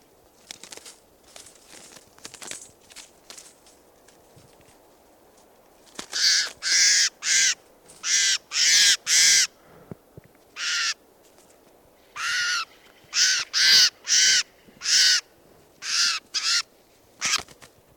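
A crow caws repeatedly in loud, harsh bursts, roughly a dozen calls in irregular clusters, after several seconds of fainter bird chatter. No one speaks.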